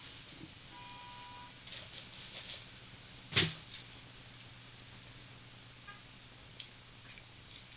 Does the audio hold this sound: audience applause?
no